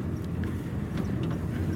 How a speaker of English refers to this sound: Driving through the Kalahari veld with half a pig on a rope behind a pickup truck. Not very far behind a pickup truck. Not terribly far behind a pickup truck.